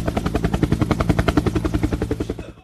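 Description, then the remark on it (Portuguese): A helicopter passes overhead above the Jaguaribe, Cristo and Vajão area at 6:23 in the morning, its rotor beating in a fast, steady chop with a low engine drone, loud throughout before easing slightly at the end. No voices. “Olha, o helicóptero agora tá sobre Jaguaribe, Cristo, Vajão.”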